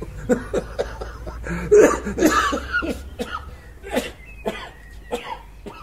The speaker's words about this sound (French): Ce soir-là, nous avons dû quitter les allées désertes de Central Park à la hâte, car mon ami s'étouffait sous l'effet d'une toux dont nous ignorions encore quel était le symptôme de sa grave maladie des poumons.